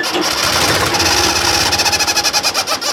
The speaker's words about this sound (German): Als Beispiel kann man diese auch aus einem Auspuffrohr eines Traktors aus den 1970er Jahren nehmen. Damit klingt der Traktor auch einfach viel lustiger.